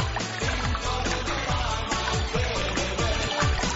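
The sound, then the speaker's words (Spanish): Water pours and splashes steadily and loudly for a few seconds, with a dense rushing wash and repeated low gurgling glugs running through it, and no voices. “Aquí rompiendo agua en directo.”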